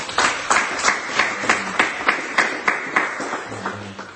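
An audience claps hands in praise to God in a steady, rhythmic beat, the many palms blending into sharp, evenly spaced bursts, with a low musical tone entering near the end.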